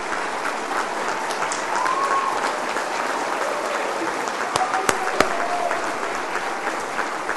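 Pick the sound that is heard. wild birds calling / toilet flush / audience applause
audience applause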